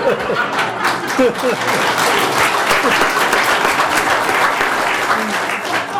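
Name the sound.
audience applause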